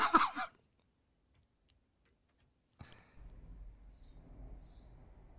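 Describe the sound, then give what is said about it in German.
A couple of brief, high bird chirps come a moment apart over a low, steady background rumble, fairly faint, after an earlier short burst of noise and a pause. “Vogelzwitschern.”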